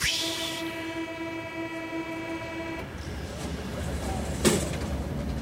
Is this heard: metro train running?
yes